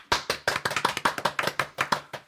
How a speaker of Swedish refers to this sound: Och då förstår vi vad det innebär och ger en liten applåd här.